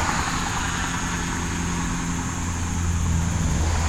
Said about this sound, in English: Alright, I'm kind of looking behind me. There's a lot of traffic this way too.